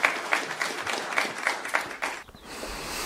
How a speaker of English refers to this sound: And the crowd applauded.